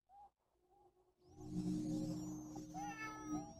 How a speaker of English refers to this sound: Who let the cat out?